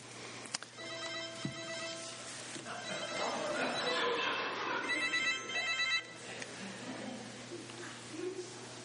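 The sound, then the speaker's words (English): A phone not set to vibrate plays a bright, repeating electronic ringtone melody for several seconds, fairly loud, with a crowd's murmur and some voices reacting underneath. “Didn't put it on vibrate.”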